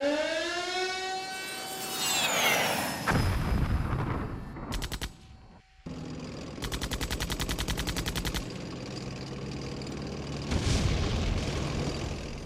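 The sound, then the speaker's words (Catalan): A war sound effect: an air-raid siren wails and rises, then heavy artillery explosions boom, rapid machine-gun bursts rattle, and more loud blasts follow, with no talking. “Acaba d'esclatar una gran guerra a una petita ciutat de l'est d'Europa.”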